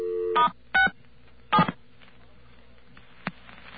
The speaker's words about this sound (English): Okay, we're going to dial 9 to get out, and we'll dial star 67, as you say. See if we get anything.